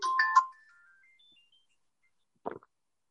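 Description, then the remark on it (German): A mobile phone that was not switched off rings, its ringtone playing a quick bright electronic melody for about half a second, trailing off into faint tones, and falling silent before a brief soft rustle. “Ups, Telefon vergessen auszuschalten, sorry.”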